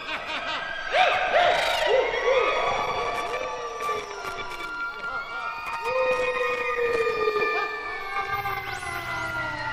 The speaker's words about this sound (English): The ghosts tried to scare them. They clanged chains. They sneaked around and made ghostly sounds. They screeched. And they shrieked.